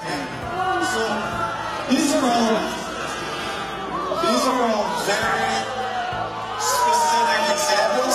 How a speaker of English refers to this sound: Let's listen to Republican legislators get booed by their own constituents. Today, it's Republican Representative Brian Mast in Jupiter, Florida, attempting to defend Trump's tariff regime.